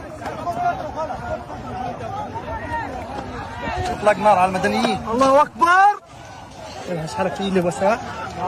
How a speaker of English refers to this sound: Video captured by Palestinians seeking food at one of the private aid points shows crowds of hungry people running under rapid gunfire.